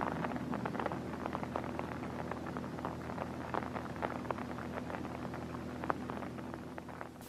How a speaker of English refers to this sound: And the rain's just on time. Now it'll rain the rest of the night.